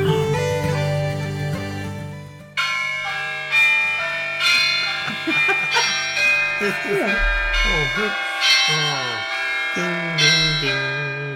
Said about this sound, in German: Was für ein Gamelan-Orchester. Ne? Nein, Glockenturm. Bitte Glockenturm.